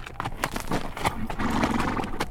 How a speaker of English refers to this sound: As the weary horse headed toward San Leon, some guiding angel must have caused the rider to lean forward to pat the head of his sorrel